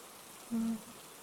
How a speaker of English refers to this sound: Shush. Don't talk. Just listen. Listen to the rain. It's so soothing. So relaxing. And it's such a complex sound, too. It's easier to hear if you close your eyes.